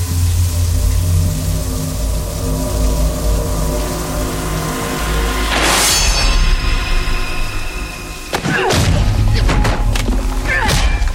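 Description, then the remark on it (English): Several sharp, heavy punches land against a man's body in a TV show scene, a forceful thwack followed by a quick cluster of blows, set against a loud, tense orchestral score with no talking. “Jamie Lee Curtis in Scream Queens just punches the guy out, and the knifing never happens.”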